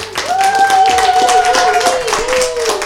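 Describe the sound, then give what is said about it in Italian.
A crowd claps steadily and densely for a few seconds, loud, with a long sustained whistle-like tone cutting through the applause, applauding the DJs at San Raffaele. “Un applauso grosso a tutti quanti nuovo, a voi che siete fatti DJ.”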